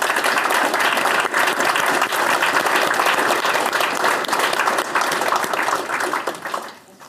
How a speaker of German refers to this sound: Ich denke, dafür und auch für das Interview können wir mal einmal klatschen, alle zusammen.